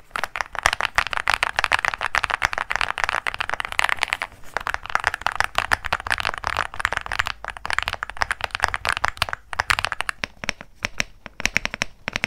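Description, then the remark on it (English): Rapid, continuous typing on a $100 keyboard, with crisp clicking keystrokes in a dense, steady flurry for about twelve seconds and only brief pauses near the end. No one speaks. “Versus $100 keyboard.”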